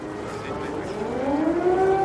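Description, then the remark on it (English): A wailing air raid siren in Kyiv, heard in a funeral scene of the Cannes documentary The Invasion by Sergei Loznitsa, rises steadily in pitch, its long tone swelling louder over a dense background of ambient noise, echoing. “An air raid siren in Kyiv can be heard in a funeral scene in the haunting Cannes documentary called The Invasion.”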